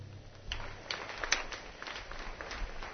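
Steady, dense clapping from an audience fills the room, a broad crackling wash with a few sharper claps popping out, moderately loud and continuous with no voices.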